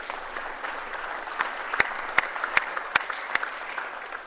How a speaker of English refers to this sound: So without further ado, if you can just give her a round of applause for her courage, please.